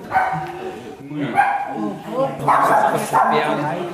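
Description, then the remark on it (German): Several dogs bark and yip in the foyer of a senior citizens' home, where owners have gathered with their dogs for a dog show, overlapping in short irregular bursts amid a murmur of people talking in the background. “Im Foyer haben sich mittlerweile die Frauchen und Herrchen mit ihren Hunden versammelt.”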